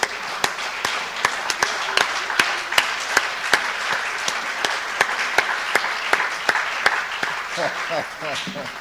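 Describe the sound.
An audience applauds as a clap offering to the Lord, a dense wash of clapping with sharper, regularly spaced claps cutting through. It stays steady and loud throughout, with voices calling out beneath it toward the end.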